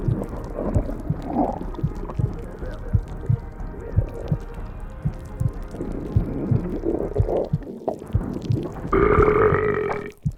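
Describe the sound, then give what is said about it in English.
A long, loud, gurgling burp rumbles on for several seconds, wet, then ends in a brief higher, croaking belch. No one speaks. “Looks like I burped up your unmentionable.”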